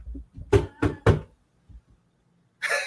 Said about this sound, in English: Knocking at my door.